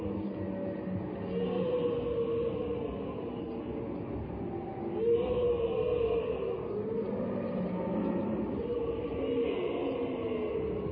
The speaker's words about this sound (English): But that's not the wail of lost souls echoing through the cliffs. George is drawn deeper and deeper into the canyon by the sound of bellowing camels.